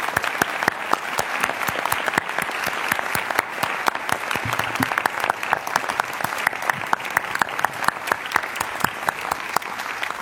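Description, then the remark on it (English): Sustained audience applause at a meeting for the newly announced council members: many hands clapping in a dense, steady patter at an even loudness for about ten seconds, with no voices rising above it. “Please, let's give all of them a great applause.”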